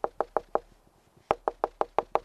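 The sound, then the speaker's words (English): Sharp, hollow knocks of a woodpecker hammering on the wall of Tom Winowski's house, where it has made a hole, heard from inside the house: a quick burst of four raps, a pause with faint taps, then a steady run of six loud strikes. No voices. “Woodpeckers want to live inside Tom Winowski's house. There's a hole, and when you're in the house, here's what you hear.”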